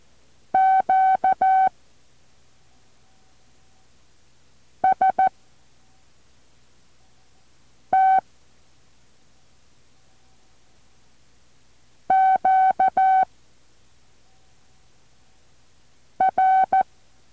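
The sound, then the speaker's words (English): International Q signals in Morse code, with no U following them, sent as a steady mid-pitched tone, keyed in short and long beeps that form several separate letter groups with silent pauses between them. No voices. “Now try these international Q signals. Be careful, there will not be a U following them.”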